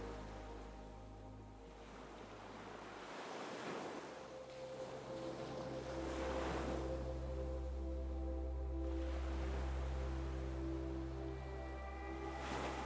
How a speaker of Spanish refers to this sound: Comienzas a escuchar las olas del mar.